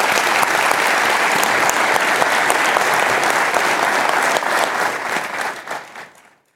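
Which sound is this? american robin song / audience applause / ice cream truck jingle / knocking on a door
audience applause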